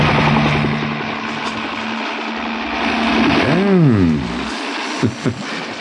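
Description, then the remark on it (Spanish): A helicopter, piloted by Calimán, roars loudly and steadily as it comes in to land at dusk, its engine pitch swooping up and down midway before a couple of sharp knocks near the end. “El hombre increíble acciona los controles del helicóptero y mira de reojo hacia abajo.”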